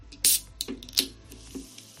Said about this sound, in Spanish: Este gesto, sí, el de abrir y tomarte una lata cualquiera de refresco, de cola, de limón, de naranja, nos va a resultar más caro